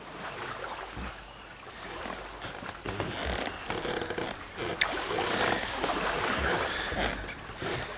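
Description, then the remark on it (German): Water sloshes and splashes steadily around a simple homemade canoe being paddled along the coast, with occasional thumps and knocks from paddle strokes, fairly loud with no one speaking. “Seemann hatte sich ein einfaches Kanu gebaut. Zusammen mit Nap paddelte er damit an der Küste entlang.”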